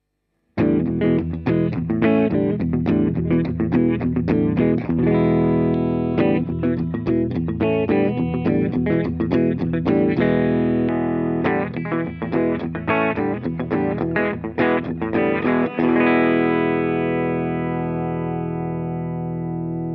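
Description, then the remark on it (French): An instrument built by master builder Yuwa Okonga's team, played with the reverb removed, plays a busy run of notes and chords, then a final chord rings out, sustaining and fading slowly for several seconds. No one speaks. “Vous pouvez entendre un sustain d'enfer qui est probablement lié à plusieurs choses.”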